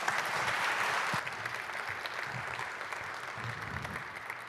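An audience claps steadily, a dense wash of many hands that stays loud throughout, easing slightly after the first second, with no one speaking over it.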